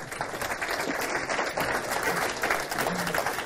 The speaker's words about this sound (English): Sorry, you can clap.